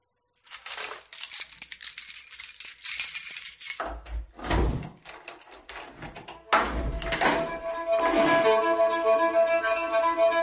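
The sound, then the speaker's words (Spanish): Keys jingle briskly for several seconds, then a lock turns with a few solid metallic clunks, followed by a long, squealing creak as the door of a home swings open. No voices. “Este es el sonido que a muchos jóvenes les gustaría escuchar con sus manos en las llaves de lo que es su próxima casa, con esta ayuda.”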